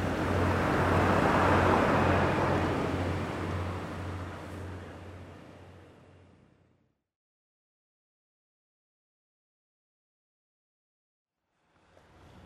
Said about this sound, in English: And I'm just at the parking lot before I cross over the bridge. There's tons of tour buses and stuff here. Lots of tourists. Not just Western tourists, but Eastern tourists too. Tourists from all over.